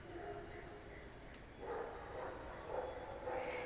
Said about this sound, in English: Now I think you probably hear some dogs in the background. I think that's a big dog. There's an open area outside this window, and so there tends to be a lot of dogs and animals back here.